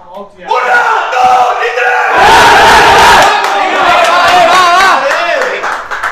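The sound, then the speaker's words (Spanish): After a team talk, a football team roars a loud shouted battle cry together, many voices yelling "¡Vamos!" in unison and swelling into a sustained, chaotic group shout that holds for several seconds. “La charla y el grito”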